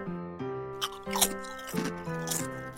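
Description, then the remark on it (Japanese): Crisp crunching of snacks being chewed beside someone during a recording, several irregular bites crackling over a steady backdrop of sustained musical tones, with no talking. “そんなこと言ってるけど、他の人の収録中にお菓子食べんといてくれる？隣でボリボリうるさいから。”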